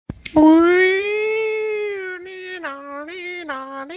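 A voice imitates a police siren for a re-enactment of R-Truth being pulled over by the cops for a sobriety test at the WrestleMania 29 press conference: a long, loud, reedy wail that rises and holds, then warbles up and down several times, with no other sounds.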